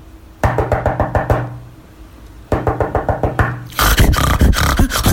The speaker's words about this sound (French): Il est inquiet. Il frappe à la porte.